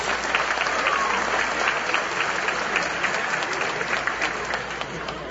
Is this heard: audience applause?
yes